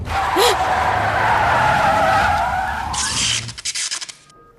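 A car skids with a loud, drawn-out tire screech lasting several seconds, then breaks into a harsh burst of noise that sputters and quickly fades out.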